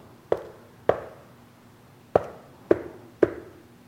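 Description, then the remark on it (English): Five firm knocks on a door, two and then three after a short pause, each a hollow, resonant thud with a brief ring, with no voices. “And maybe some of those in the back pews heard that knocking and says, who in the world is that knocking at the door?”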